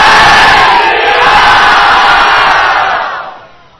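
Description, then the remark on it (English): A large crowd loudly chants the religious slogan "Jai Shri Ram" in unison, a dense, roaring wall of voices that holds for about three seconds before trailing off. “Jai Shri Ram! 10 million times louder, please. Again, please.”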